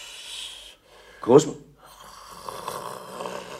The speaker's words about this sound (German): Komisch. Die alte Frau schnarcht aber heute laut. Nur wenn sie auch schläft, so will ich trotzdem nach ihr sehen.